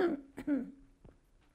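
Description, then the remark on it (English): A person clears their throat during a Bible reading, a short harsh rasp followed by a couple of quieter vocal grunts, with no words spoken. “Let me clear my throat.”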